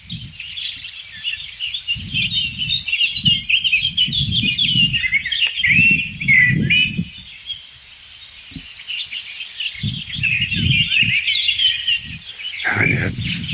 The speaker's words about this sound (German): Also es ist nichts Heftiges zu hören. Es gab jetzt ein paar Warnrufe kann man die noch nicht mal nennen. Ein paar Schimpfer von der Singdrossel.